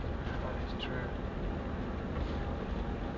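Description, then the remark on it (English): A red tractor drives past, its engine rumbling steadily in a continuous low, noisy drone that holds an even level throughout without a clear rise or fall. “A tractor”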